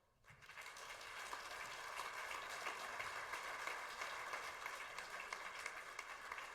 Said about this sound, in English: And then, most importantly, for the next 30 seconds or so, give a warm round of applause for Thomas.